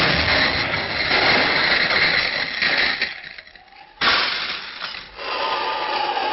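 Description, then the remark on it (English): A dense roar of crashing noise gives way to a brief lull, then a sudden sharp blast as a mine explodes on a beach, followed by rattling, tinkling debris of the cottage window glass shattering, fading off. “There is the explosion and broke the window of the cottage.”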